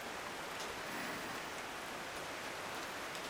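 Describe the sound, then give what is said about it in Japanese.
Steady rain falls with a dense, even, continuous hiss, with faint scattered droplet taps and no voices. “この雨が止む頃には私は。”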